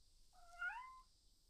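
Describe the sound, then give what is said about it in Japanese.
A single drawn-out cat meow that rises and then dips, lasting under a second, heard on its own against a quiet, slightly hissy background. “どうしたの猫ちゃん。ごめんね、私たちの声うるさかった。”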